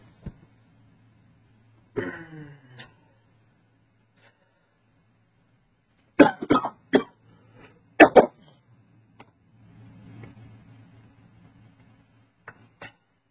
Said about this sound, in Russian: И я надеюсь, что после умного водички у меня кашель смягчится.